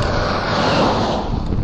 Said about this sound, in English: There's a slight headwind, and the road surface is quite rough, and that slows you down as well, apart from also giving you a lot of vibration, which is tiring.